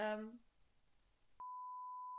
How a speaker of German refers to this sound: Und jetzt piepst du einfach.